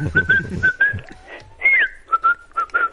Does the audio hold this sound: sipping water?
no